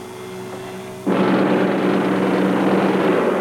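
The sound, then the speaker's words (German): A low motorboat engine idles, then abruptly roars to full power about a second in, a loud, rough drone that holds steady as the boat speeds out of a harbour, with no voices. “Antenne startet den Motor, lässt das Boot aus dem Hafen rasen”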